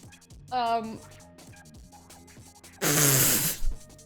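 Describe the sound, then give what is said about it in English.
Lip spluttering: a short buzzing raspberry, then after a pause a louder, longer wet sputter of spitting air through the lips, with soft background murmur between. “Just spitting everywhere.”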